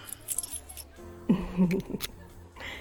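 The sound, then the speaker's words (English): Keys being handed over make a short metallic jangle, with bright clinking bursts spread over a few seconds amid soft rustling, no one speaking. “give them the keys.”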